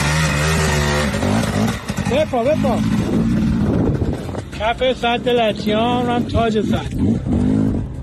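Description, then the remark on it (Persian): Motorcycle engines rev and accelerate as people ride motorcycles on the dried-up bed of the Latyan Dam, exposed by falling water levels, their pitch rising and falling in repeated bursts, with wind buffeting the microphone and a steady loud engine drone throughout. “در یکی دیگر از این ویدیوها پایین آمدن سطح آب سد لطیان به حدی است که در بخش‌هایی از بستر خشک سد شهروندان به موتور سواری می‌پردازند.”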